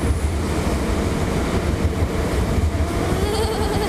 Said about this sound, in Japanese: ねえ、特急電車通過するって。急電車通過だから起きてきた。見てごらん、急電車ほら来たよ。渋谷行きだよ。やばい、おーすごいね。